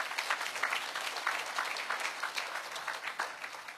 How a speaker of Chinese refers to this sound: 我们拍手把荣耀归给主好不好？